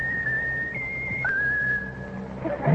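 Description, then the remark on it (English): A pet bird named Raffles whistles a simple tune: a few long, steady notes that shift pitch in small steps, clear over a low background hum, ending with a brief rustle. “Whistle your favorite tune.”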